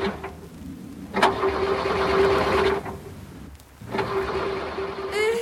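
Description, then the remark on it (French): A parked Visa car's engine, started with keys left on the dashboard, cranks over in two separate attempts, each a steady, whirring grind lasting a second or two with a short pause between, fairly loud, with no voices. “Remarque les clés sur le tableau de bord et, en moins de temps qu'il n'en faut pour le dire... Démarre!”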